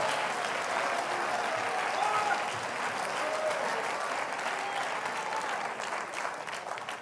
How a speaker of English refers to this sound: You go ahead and clap your hands, honey. You go ahead and praise your God with thanksgiving.